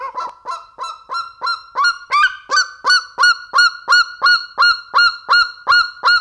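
A common raven calls repeatedly while flying over at Green Mountain, giving a steady, evenly paced series of loud, honking croaks, about two or three per second, clear with no talking.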